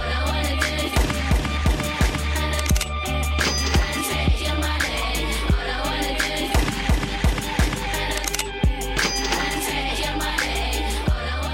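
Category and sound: sound effect, gunshots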